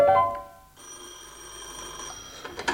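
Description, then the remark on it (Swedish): An old telephone bell rings with a bright metallic trill, ringing steadily with no one speaking over it. “Det är klart till centralsjukkassan, samtalet ni beställde i förrgår.”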